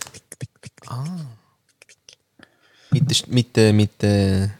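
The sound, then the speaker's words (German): A voice imitates the high-heel footsteps of a walking devil character with a quick run of sharp tongue clicks, then a short hummed squeal and a few more sparse clicks, followed by loud voices talking and laughing. “Und der läuft ja so.”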